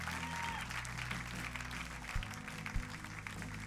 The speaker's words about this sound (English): Come on, can we give these people a great round of applause?